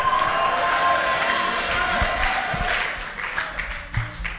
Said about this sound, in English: I'm not hearing a loud amen from delivered people. Let me hear the deliverance shouts.